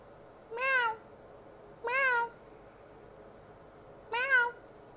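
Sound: cat crying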